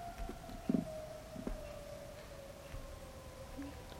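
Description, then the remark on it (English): A tornado warning siren holds one long, steady droning wail, slowly sliding slightly lower in pitch, faint beneath a few soft knocks and background noise, with no one speaking. “That's the tornado warning siren.”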